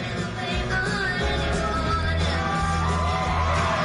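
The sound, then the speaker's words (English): A crowd cheers loudly and continuously for about four seconds after a performer's daughter sang with him on stage, with scattered whoops and yells rising over a dense, steady roar of voices. “The crowd loved it.”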